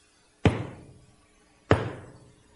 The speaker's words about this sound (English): And then Moses raised his arm and struck the rock twice with his staff.